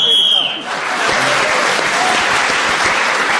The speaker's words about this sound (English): So Paul Merton was again speaking as the whistle went again.